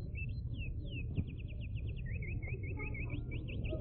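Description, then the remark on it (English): A specially made recording of Indiana songbirds plays: rapid, repeated high-pitched chirps and trills run continuously over a steady low rumble, sounding slightly muffled and old, with no voices. “Those were authentic Indiana birds.”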